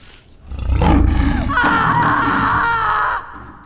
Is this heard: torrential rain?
no